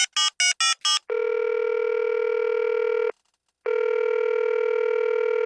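Four quick telephone dialing beeps as a guest is called and the call put through, then a steady ringback tone sounding twice in long bursts with a short gap between, clear with no voices.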